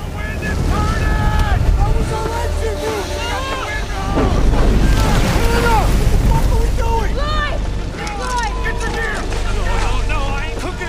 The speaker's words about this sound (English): A powerful wind gust shakes towering pine trees to and fro as they burn.